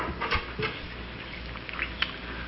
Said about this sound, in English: You can take off the bark so that the inward parts may be exposed.